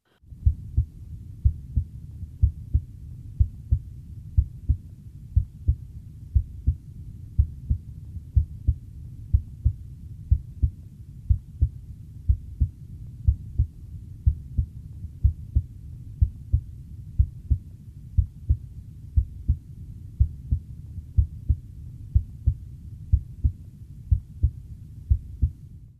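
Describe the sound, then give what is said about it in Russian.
Steady, regular heartbeat heard through a stethoscope at the tricuspid valve point by the xiphoid process, over the tricuspid valve and right ventricle; each beat a low lub-dub pair with the first sound louder than the second, repeating about once a second over a soft low hum, no voices. “трикуспидального клапана и мышцы правого желудочка. Аускультативная картина здесь близка определяемой на верхушке, однако громкость тонов несколько меньше”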